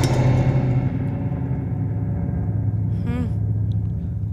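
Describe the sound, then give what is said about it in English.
A spring reverb tank from a guitar amplifier is hit, giving a loud, dark, booming rumble that sustains throughout, with a wobbly metallic boing sweeping upward partway through. No one speaks. “And I also have something that's a spring reverb from a guitar amplifier. You can hit it, which I love.”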